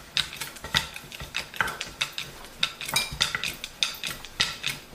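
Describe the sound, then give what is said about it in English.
Dough for bite-sized puris is rolled out on a kitchen counter, with a steady run of irregular clicks and light knocks against the hard surface, and no one talking. “So basically I took like a bunch of dough. We're just gonna roll it.”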